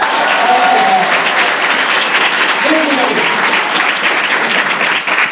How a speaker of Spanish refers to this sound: Ok, ojo, hoy sí puede darse un fuerte aplauso a todos.